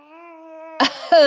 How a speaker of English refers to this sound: You named your male cat Jewel? It's Jewel, like short for Juliet, actually. Okay. You named your male cat Juliet? Didn't you hear what he sounds like when he's meowing?